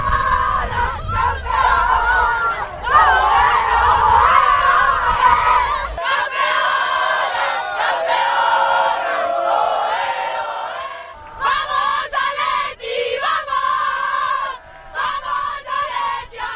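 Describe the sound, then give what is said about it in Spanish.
Atlético de Madrid women's football players shouting and cheering together in loud, sustained celebration at the end of the match in Zaragoza after winning the league, voices overlapping in a dense chorus with brief dips before the yelling surges again. “Este es el momento en que acaba el encuentro y a partir de ahí los gritos.”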